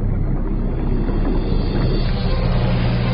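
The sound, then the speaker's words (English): A motorboat engine on a lake drones steadily, a constant low rumble with water and wind noise mixed in, holding the same loudness throughout without any voices. “The effect would be to drag the boat towards the hole so that it begins to curve around it, even though the boat is still being driven in a straight line.”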